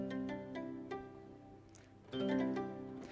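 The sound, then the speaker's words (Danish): Harpsichord played with its lute stop, felt damping the strings: a quick series of plucked notes, a brief lull, then a louder burst of bright, muted plucks with no voices. “Og det der så er nu, det er, at cembaloet har ikke kun én klang, men cembaloet har også en lut-klang, kalder man det.”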